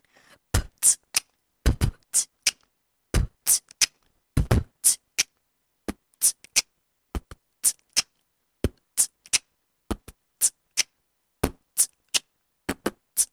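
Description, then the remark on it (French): A solo vocal beatbox performance: sharp mouth percussion in a quick, steady rhythm, with punchy kick-like bursts and crisp snare and hi-hat clicks, no speech. “D'accord, est-ce que tu peux nous faire une petite démo de beatbox?”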